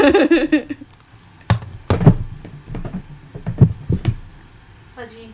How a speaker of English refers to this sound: Let me actually go and close my door, because now I realize I'm uncomfortable.